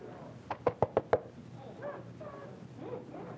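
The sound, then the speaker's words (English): Five sharp knocks on a door in quick, even succession, fairly loud, by people going house to house with Bible verses, followed by faint muffled voices in the background. “You knocking on my door.”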